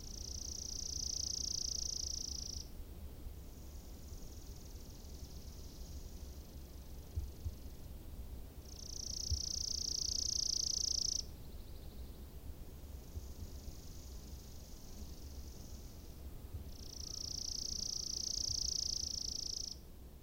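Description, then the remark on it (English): A chipping sparrow sings three loud, rapid, dry trills on one high pitch, each lasting a couple of seconds, with fainter high trilling between them over low background rumble, at the forest edge in Tamarack National Wildlife Refuge. “This song is so fast-paced, it's hard to miss. The chipping sparrow males arrive early in the spring to sing out a territory for nesting.”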